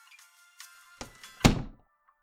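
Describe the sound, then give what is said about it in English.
A door swings shut with a heavy thud, preceded by a softer knock of it moving. Nobody speaks, and a faint tonal hum sits quietly in the background. “Just come in here and close the door.”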